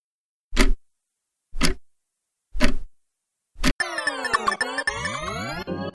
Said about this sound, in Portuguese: Tem vinheta, roda o tempo, roda o relógio.